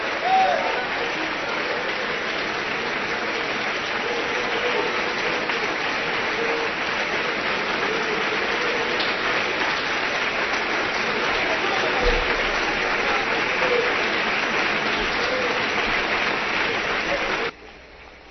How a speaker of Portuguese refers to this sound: Vocês aplaudem o Senhor e nem celebram o seu nome.